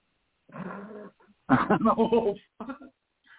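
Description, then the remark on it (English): A person growls like a wolf in three rough, throaty bursts, the middle one longest and loudest, with no other talk. “I'm a wolf.”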